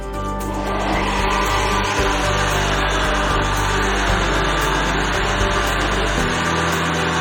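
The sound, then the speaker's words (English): A blender roars loudly and steadily for several seconds, a dense mechanical whir with a constant motor hum underneath, starting up abruptly and grinding on without any talking, blending a cheese sauce mixture with tapioca starch and water. “And we're going to blend it all up.”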